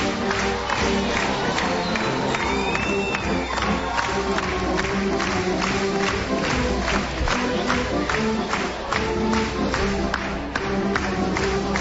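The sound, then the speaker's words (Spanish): A large crowd claps along in a steady, even rhythm, about two claps per second, over a loud continuous wash of cheering and crowd noise, with a brief whistle rising above it. “Bueno, está todo el mundo ya acompañando con las palmas, y esto se viene abajo.”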